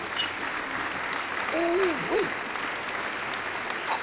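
A steady wash of applause runs for about four seconds at an even, moderate level, with a short rising and falling whoop of a cheering voice partway through.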